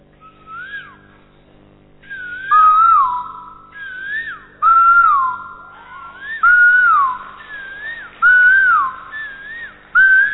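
A person whistles an imitation of an Asian koel's call, repeating the rising and falling phrase about six times in steady bursts, loud, with no talking.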